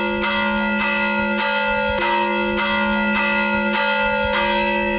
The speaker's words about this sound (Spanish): Sí, sí, porque hay veces, después muchas veces, no es solamente que sea el monte, es que, por ejemplo, en una casa, ¿no? Se prende una casa y entonces sube enseguida el campanero, o el que esté, o el que sea, sube enseguida, empieza a tocar.